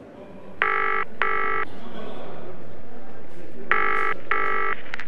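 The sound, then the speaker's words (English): A telephone rings in two double bursts, brr-brr, a pause, then brr-brr again: buzzy, clear tones over a steady low hiss of background noise. “Have you got her phone number? Yes, I have. Why don't you call her?”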